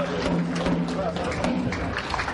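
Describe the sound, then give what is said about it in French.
A dense, lively crowd of many voices calling out and cheering, with sharp tam-tam strikes at an irregular, quick pace, after the symbolic handover of kits (a mobile phone and a SIM card) to 12 poor families in the commune of Djébonois, Ivory Coast. “Bruit de tam-tam et acclamations après la remise symbolique à 12 familles démunies des kits composés d'un téléphone portable et d'une puce téléphonique.”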